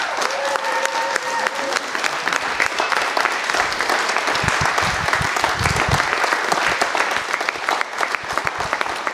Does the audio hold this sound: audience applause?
yes